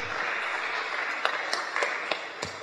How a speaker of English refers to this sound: Let's clap for her.